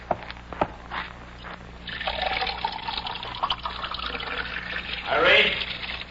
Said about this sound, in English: I'll get him a glass of water.